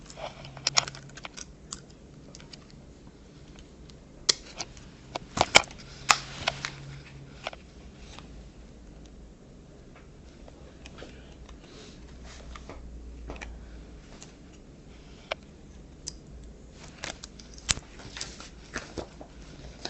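Quiet scratching and tapping of a pen on paper as someone jots something down, coming in short irregular strokes and clicks with brief pauses, with no talking.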